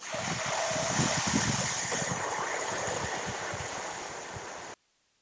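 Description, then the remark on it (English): During a breathing exercise, a person exhales one long, steady hissing "sss" breath imitating a snake, loud for nearly five seconds before it stops abruptly. No words are spoken. “You're inhaling, and as you exhale, you're going to make the snake sound.”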